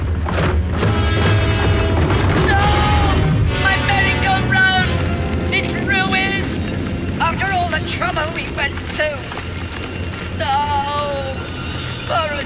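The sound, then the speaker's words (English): A merry-go-round ride explodes in a shower of sparks: a loud, rumbling explosion booms and keeps roaring, with crashing debris, a large burning cog crashing to the ground, and high whistling, squealing tones scattered through it. A voice speaks over the din. “The ride explodes in a shower of glittering sparks.”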